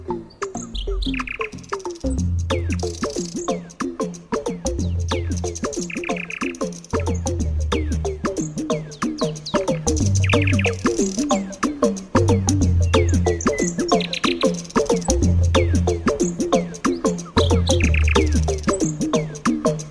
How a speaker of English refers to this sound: Until then, it's goodbye from me and that nightingale.